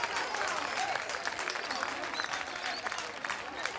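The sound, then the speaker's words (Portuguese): A crowd in Ancuva breaks into steady, dense applause for the local APE, many hands clapping together for several seconds without pause. “Agora, o APE de Ancuva merece palmas, não merece?”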